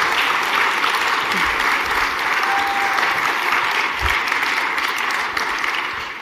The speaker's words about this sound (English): Let's give her a round of applause as she's coming up.